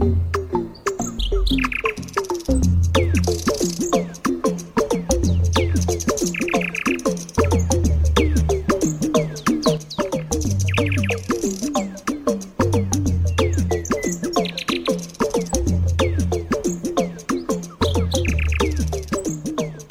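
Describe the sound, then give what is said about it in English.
A nightingale sings loudly and continuously, rapid varied phrases of chirps and whistles repeating in bursts, with no voices present throughout. “Until the next time, it's goodbye from me and that nightingale.”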